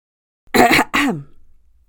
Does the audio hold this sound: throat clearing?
yes